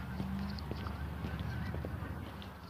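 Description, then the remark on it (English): Geese honk, several scattered calls overlapping against a steady background rush, as a flock flies overhead. No one speaks. “I don't know what it is, but there's something about the sound of a flock of geese flying overhead.”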